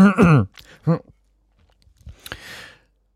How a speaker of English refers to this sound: I've got a throat bubble. I've got a throat bubble. I try swallowing. Hang on.